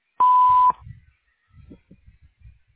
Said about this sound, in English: At the tone, please speak your name, nature of your inquiry, and phone number where you can be reached again.